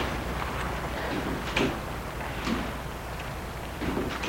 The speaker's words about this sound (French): L'oncle a pris la valise et va ouvrir la porte de l'allée.